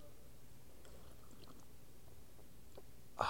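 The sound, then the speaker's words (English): A short slurping sip of hot tea, poured and steeped from a tea bag, arrives right at the end, preceded by a few faint, scattered mouth and liquid clicks in otherwise quiet surroundings. “And you take a sip.”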